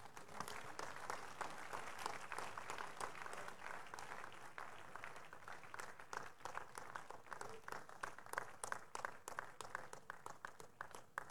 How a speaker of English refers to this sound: Let's rise to our feet as we celebrate God for these amazing testimonies with a hand clap of praise.